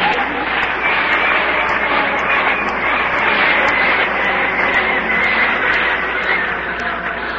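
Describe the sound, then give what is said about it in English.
A steady, loud engine drone from an airplane that is ready to depart fills the whole stretch, with a broad roaring hum and faint rhythmic pulsing throughout. “The plane's ready to leave.”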